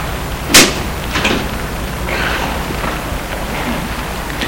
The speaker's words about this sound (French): Il entend le déclic porte du portail. Il entre.